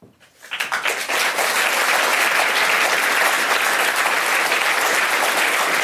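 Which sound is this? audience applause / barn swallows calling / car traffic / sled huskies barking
audience applause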